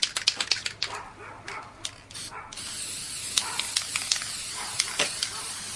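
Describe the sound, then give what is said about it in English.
Gold 18 karat aerosol spray paint hisses in short bursts, then settles into a longer steady spray, with small clicks and taps scattered throughout, as it is sprayed onto an artwork's frame and a little onto the artwork itself. “I'm spraying gold 18 karat spray paint on my frame right now, and a little bit on the actual work.”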